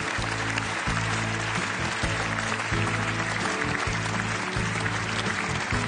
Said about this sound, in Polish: W tym roku Orzeł wędruje do niego za główną rolę męską w filmie Claire. Wielkie brawa, Jacek Braciak.